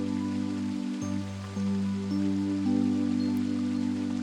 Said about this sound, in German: Kleine, kühle Wassertröpfchen setzen sich leicht auf dein Gesicht. Das Rauschen des Wasserfalls verschwindet.